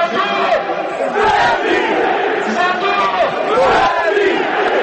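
A large crowd of football fans chants and shouts together in response to a national team footballer leading them over a microphone, loud and continuous, with voices rising in drawn-out, sing-song calls that fill the whole stadium.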